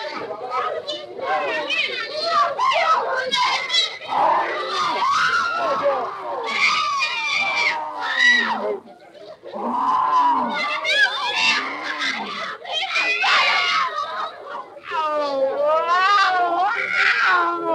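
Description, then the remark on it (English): A man's inhuman growling: loud, nearly continuous animal-like snarls and yowls with wavering, sliding pitch, broken by a brief pause midway, with no intelligible words. “The inhuman growling you're about to hear is a man.”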